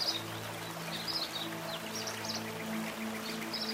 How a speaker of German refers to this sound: Langsam beugst du dich über das Wasser, das trotz seines unruhigen Plätscherns und Wirbelns durch sein Leuchten eine erstaunlich spiegelnde Eigenschaft aufweist.